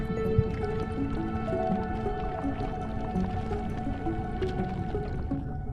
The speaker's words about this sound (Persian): یک چشمه دریای عمیق که آب گرم از شکاف‌های موجود در کف دریا می‌جوشد و به رشد و پرورش تخم‌های آنها سرعت می‌بخشد.